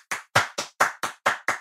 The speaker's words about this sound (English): Claps for self.